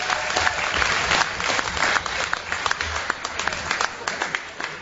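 A crowd breaks into steady applause for the new municipal council at a debate tournament, dense overlapping claps that are loud at first and then gradually thin out into scattered, individual claps toward the end.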